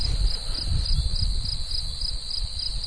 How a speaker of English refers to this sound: You can hear all the insects and the birds, so it's beautiful weather.